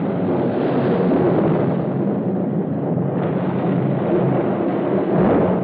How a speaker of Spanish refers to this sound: La furia de la tempestad parece recrudecerse.